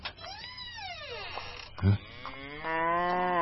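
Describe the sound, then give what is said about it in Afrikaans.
A cow moos in long, drawn-out calls whose pitch swells and falls, broken midway by a short low thump before a final sustained low. “Mal koei, ga uit!”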